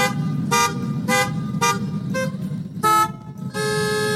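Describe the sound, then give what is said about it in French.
At an organized concert of car engines, horns and slamming doors in Le Mans, France, car horns honk in a rhythmic series of loud, evenly spaced blasts over a steady low rumble of idling engines, with a final longer held honk and no voices. “Eh bien oui, au Mans, un concert de moteurs de voitures, de klaxons et de portières qui claquent a été organisé.”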